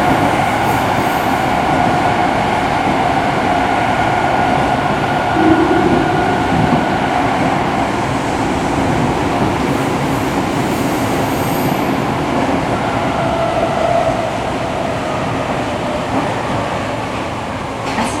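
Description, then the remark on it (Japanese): A Tokyo subway train rumbles along between stations as it approaches Omotesando station, a loud, steady roar of wheels and motor with a faint whine rising now and then, continuous for the whole stretch with no voices. “The next station is 表参道。Please change here for the 銀座 line and the 半蔵門 line.”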